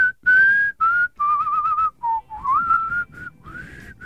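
A person whistles loud and clear in a string of short sustained tones that waver and slide between two pitches, with brief breaths in between and no talking.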